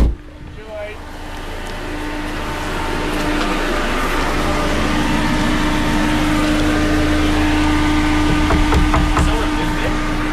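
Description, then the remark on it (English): A car engine idles outside a pub with a steady, low, droning rumble that holds at an even level throughout, continuous with no revving. “I'll get out of the car and knock on the door.”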